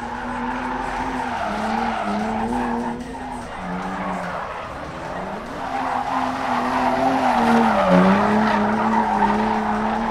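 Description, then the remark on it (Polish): A car drifts during a drifting show, with a continuous, wavering tire squeal and a roaring engine, the pitch sliding up and down as it slides through turns, loud throughout, without any talking. “Słuchajcie, jeszcze sam nie wiem, ale będę dzisiaj driftował specjalnie dla was tutaj.”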